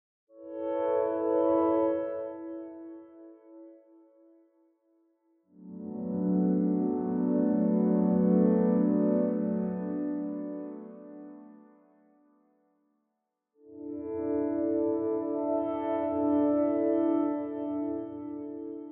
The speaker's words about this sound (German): Jetzt gibt es aber noch ein drittes Pad, was ein bisschen anders vom Sound ist.